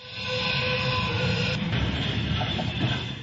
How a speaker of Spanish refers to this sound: El silbido del tren simbolizando la llegada de un nuevo transporte de judíos a Auschwitz-Birkenau abrió el acto conmemorativo de piedad en el gigantesco cementerio europeo sin tumbas.